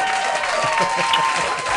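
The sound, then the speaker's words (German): Steady, dense applause from a group, many hands clapping at once in a continuous wash of sound that holds the same loudness throughout, with faint voices mixed underneath. “Super, hier kommt dein Applaus.”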